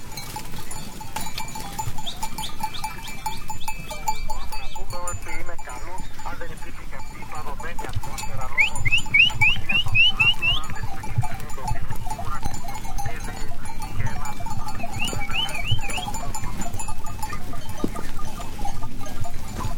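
A shepherd's flock of goats and sheep in Greek Macedonia moves along with bells jangling and clanking in uneven bursts, high metallic tinkles over a steady rustling murmur of the animals, with occasional bleats.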